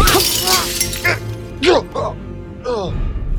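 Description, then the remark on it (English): A glass cabinet shatters in a loud, crashing burst at the start as a man's face is slammed into it during a fight, a bright spray of breaking shards, followed by several strained, wavering vocal sounds. “grab a large piece of shattered glass from the floor”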